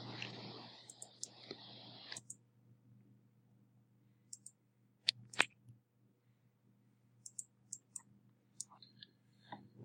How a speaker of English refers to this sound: My dice are still rolling.